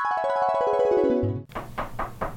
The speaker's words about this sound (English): And so I knocked on the door